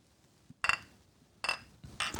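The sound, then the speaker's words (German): Several bright clinks of glass striking glass ring out in three short bursts with brief pauses between, as drinking glasses are touched together in a toast. “Trinken wir mal was?”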